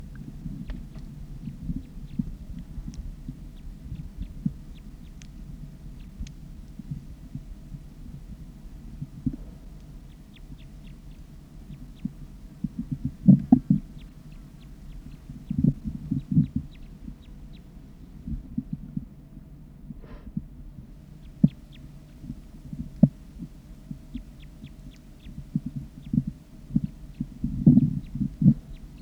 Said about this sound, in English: So recording, wild bird. Recording, it sounds like there are two birds.